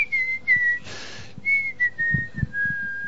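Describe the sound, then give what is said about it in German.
Someone whistles a bright, cheerful tune, with long sustained notes sliding gently in pitch, briefly broken by a breathy pause before the melody resumes. “Ja, Alter, was pfeifst du denn so glücklich?”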